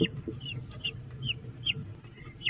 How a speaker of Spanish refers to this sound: Se trata de una iniciativa para observar en directo el proceso de anidación y cría de los cernícalos.